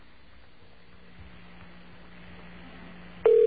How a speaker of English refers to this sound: Oh, by the way, we're going to get a tone here first, and then it's going to turn into an operator. It's kind of a silly system, but that's the way they do it. Just waiting for the tone to go around is what we're doing. Here we go.